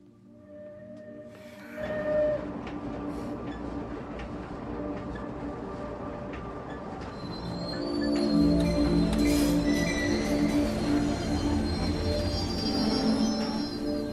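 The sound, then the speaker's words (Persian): A passenger train rolls along the rails, being sent back to Germany with all its passengers after the Swiss borders were closed because of the war. A steady mechanical rumble and faint metallic whines swell louder and heavier in the second half; no voices are heard. “این قطار با تمام مسافرانش به آلمان برگردونده میشه.”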